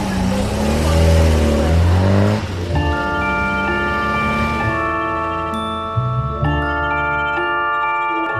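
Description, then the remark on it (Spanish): A car engine on a road revs loudly with its pitch surging up and down, then settles into a steady, humming drone that shifts tone once as the vehicle drives on. No voices are heard. “¡Pare mi coche!”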